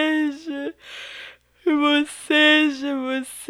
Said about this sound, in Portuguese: boceja.